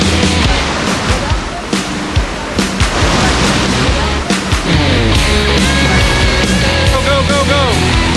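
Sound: rushing river current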